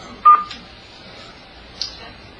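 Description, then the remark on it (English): A conference-call join tone during a council meeting: a short, bright electronic beep near the start, then a softer second tone about a second and a half later, over quiet room hum with no talking. “Did someone just join us on the phone?”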